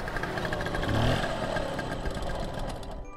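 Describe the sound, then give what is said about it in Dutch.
A scooter engine runs steadily with a buzzing, puttering drone, fairly loud throughout, as the riders travel from Aalsmeer to a parental home near Amsterdam to pick up a pudding. “En als het hoofdgerecht achter de kiezen is, dan pakken ze de scooter om weer te rijden naar haar ouderlijk huis, vlakbij Amsterdam, om de pudding op te halen.”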